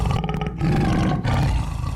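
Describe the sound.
A voice imitates a tiger's roar: a loud, rough, growling rumble held for about two seconds, with a brief dip in the middle before it surges again.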